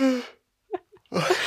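A person yawns with a drawn-out, breathy voiced sigh that falls in pitch and fades, followed by a pause, a few soft clicks and breaths, then another loud, breathy vocal burst.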